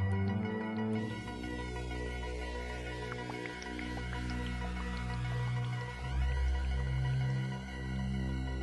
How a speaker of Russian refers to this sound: Теперь, когда в мире музыки особо интересного ничего не наблюдается, давайте обратимся к этим записям и послушаем, как живет, дышит и звучит реальный космос.